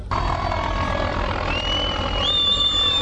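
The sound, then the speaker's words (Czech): A Hungarian police helicopter drones steadily overhead at the Serbian–Hungarian border near Horgoš, its low rotor thump pulsing beneath a high turbine whine that rises in pitch near the end. The noise stays loud throughout, with no voices. “Pojava mađarskog policijskog helikoptera je izazvala proteste više stotina izbeglica koje su blokirale autoput.”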